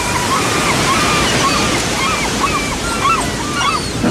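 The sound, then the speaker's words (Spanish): Steady, full-bodied ocean surf washes and rolls without pause as waves break into foam, with faint repeated bird-like chirps rising and falling over the roar. “Hola que rompe y se hace espuma.”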